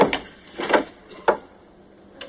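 A door being opened: a handful of sharp wooden clicks and clunks from the handle and latch, spaced out over a couple of seconds, with no voices.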